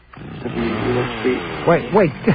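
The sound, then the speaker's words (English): A small engine, like a chainsaw, drones steadily and then revs up in three quick, rising-and-falling bursts, loud and buzzy with a strong harmonic whine. “He's putting on a chainsaw.”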